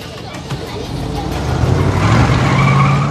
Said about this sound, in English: Sean fidgets as Kathy's Porsche turns a corner.